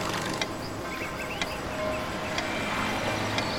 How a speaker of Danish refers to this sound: Begynd med at rette opmærksomheden mod lyden af uret. Overvåg nøje denne lyd. Ingen andre lyde er vigtige. Ret al din opmærksomhed mod denne lyd.